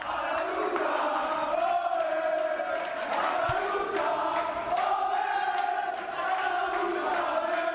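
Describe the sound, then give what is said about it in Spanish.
A group of people in the Recre football team's locker room cheering and chanting together in loud, sustained unison, with rhythmic shouts rising and falling, celebrating the team's historic promotion. “Así suena un vestuario que celebra un ascenso histórico.”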